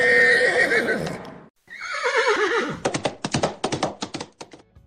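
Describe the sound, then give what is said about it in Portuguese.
A horse whinnies loudly twice, the second call sliding downward, then hooves clop in a quick, uneven rhythm as the horse carries a knight off toward a forest. No one speaks. “Assim, ambos os cavaleiros partiram em direção ao bosque encantado.”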